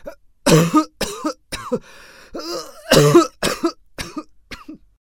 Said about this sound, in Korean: 기침을 많이 하는데요. 목도 아프지요?